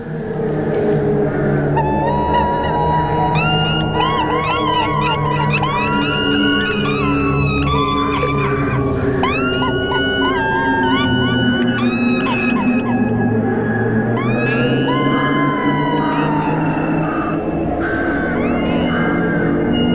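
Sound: seagulls calling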